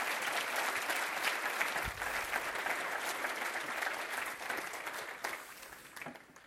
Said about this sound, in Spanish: Denle un fuerte aplauso a Cristo, hermano.